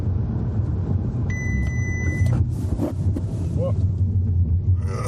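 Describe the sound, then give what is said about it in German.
A car drives steadily with a constant low engine and road rumble, a brief high whine rising over it partway through, and faint voices underneath, while its emergency stop assistant is being tested at the ADAC test centre in Penzing. “Also mein Ziel ist jetzt mal nicht mehr zu bremsen, okay, sondern jetzt warten wir mal einen Bremsrum ab und dann steuere ich außen rum.”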